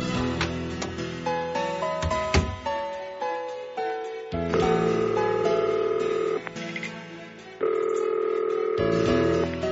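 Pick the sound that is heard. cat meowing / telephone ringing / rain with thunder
telephone ringing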